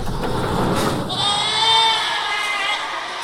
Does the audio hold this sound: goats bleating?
yes